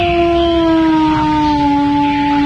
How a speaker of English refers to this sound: That's a beagle in heat, mate. No, it's not a wolf. Don't tell me my business. I know that's a beagle. That's the Eastern Virginia Beagle. He's found in many of the more crowded neighborhoods on the East Coast.